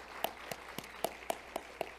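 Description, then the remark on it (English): Hand clapping in praise to God at a church service, in steady, even rhythm, about eight sharp claps at a brisk pace, moderately quiet over a faint hum, with no voices. “Why can't we give God a great old big hand clap of praise?”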